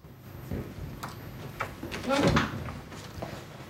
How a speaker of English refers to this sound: Down in the basement, Sahira unlocks a door bearing a red sign reading Plastics Store.